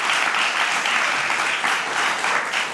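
A studio audience applauds steadily, a dense, even clatter of many hands clapping at a strong, constant level with no voices on top.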